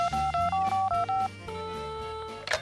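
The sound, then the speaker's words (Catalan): A quick run of about seven telephone keypad tones, each a short dual-pitched beep, followed by a steady ringing tone, all clear with no talking, as a phone call is dialed to a restaurant in the Balearic Islands. “Bueno, la qüestió és que estic telefonant a alguns restaurants de Balears,”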